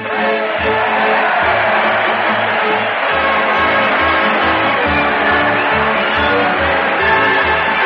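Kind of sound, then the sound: crowd, crowd cheering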